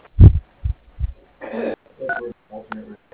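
Telephone keypad dialing tones for extension 301 on the Howerton Plumbing phone line: three short electronic beeps about half a second apart, each with a steady buzzy pitch, after a few soft, low thumps.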